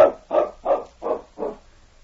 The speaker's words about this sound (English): Sounds like that dog is right outside the door.